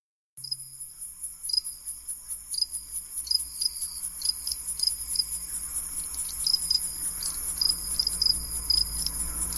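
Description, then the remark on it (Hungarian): Crickets chirp steadily in a dense, high-pitched chorus, pulsing in fast rhythmic trills that carry on without pause, with a faint low rumble of outdoor night ambience underneath. “Kis tücsök, minden este itt ülök, álmosan hallgatom, hogy zenél a cimbalom.”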